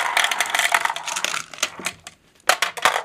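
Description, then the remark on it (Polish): A dense rattling cascade of many small glass marbles in various colours tumbling and clicking as they are dropped into a plastic lottery drawing machine, bright and busy, thinning out briefly before a final burst of clattering clicks. “O, mamy tutaj całe mnóstwo takich szklanych kuleczek w różnych kolorach. Wrzucamy te kuleczki do maszyny losującej. One spadają.”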